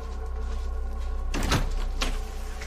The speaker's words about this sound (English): They're led to a red brick detached house. A middle-aged woman opens the door.